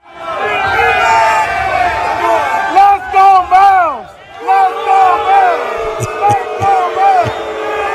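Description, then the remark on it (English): A large Warriors arena crowd roars and chants together before the game in loud, swelling waves of overlapping voices as Charles Barkley on the TNT set tries to tick them off, with a few sharp thuds near the end, like a ball bouncing on a court. “But Charles Barkley apparently is one with DFW because before the game on TNT, he was trying to tick off the Warriors crowd.”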